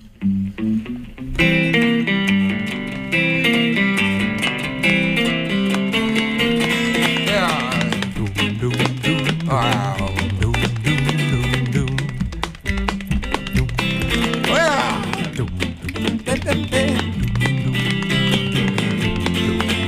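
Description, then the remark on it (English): A full band plays an upbeat, stomping tune in C major live on Center Stage Minnesota, with a steady driving beat, loud throughout, with bass, rhythm instruments and melody filling the whole stretch without pause. “And it's a bit of a stomp.”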